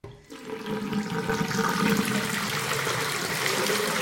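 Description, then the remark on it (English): Hot water gushes steadily into a kitchen sink, a continuous fairly loud rushing and splashing that starts abruptly and holds for several seconds without any voices. “Dan filled the sink with hot water.”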